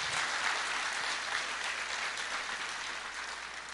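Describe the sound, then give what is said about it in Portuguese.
A large church crowd applauds steadily, celebrating 77 million invested in missions in 2018, the dense clapping forming a continuous, even wash of sound that holds at a fairly strong level throughout, with no voices standing out. “Pode aplaudir.”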